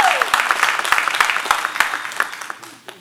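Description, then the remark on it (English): A church audience applauds God during a morning service, a dense, steady patter of many hands clapping together, fairly loud, then gradually thinning and tapering off over about three seconds. “Come on, let's give God a little applause this morning.”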